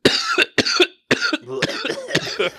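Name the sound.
coughing fit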